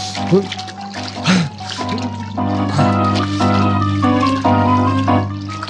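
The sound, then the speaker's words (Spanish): Rhythmic watery splashes of oars vigorously rowing a small boat out from its hiding place under a pier, dipping and pulling through water every second or so, partly masked by a steady, swelling musical backdrop. “Remando con prodigioso vigor, Calimán hace salir la pequeña barca de su escondite bajo el muelle”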